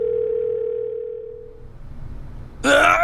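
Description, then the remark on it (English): A cell phone dials a number selected from its contact list: a steady electronic tone hums for over a second and fades, then a sudden loud, noisy burst cuts in at the very end. “Nick flipped out his cell phone and selected a number from his contact list.”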